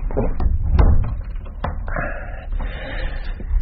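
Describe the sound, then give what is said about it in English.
A door is shut: a few quick wooden knocks and latch clicks, ending in a muffled thud, with a soft room rumble underneath and no talking. “I'll just close this door.”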